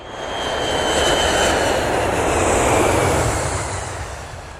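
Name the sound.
airplane cabin engine drone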